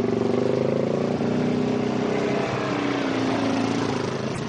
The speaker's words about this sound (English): the last weekend of October, had you been in Hurricane Mills, you'd have heard the whining, roaring, sputtering engines of dirt bikes instead.